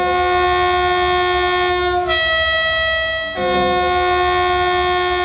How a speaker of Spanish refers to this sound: Ayer los trenes volvieron a pasar precisamente por ese tramo de Adamuz y hicieron algo, hicieron sonar las bocinas como homenaje.